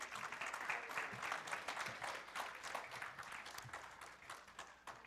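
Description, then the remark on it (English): An audience breaks into sustained applause as a clap offering, a dense wash of many hands clapping together at steady volume for several seconds, with no voices standing out. “Yes, give a lot of clap offering.”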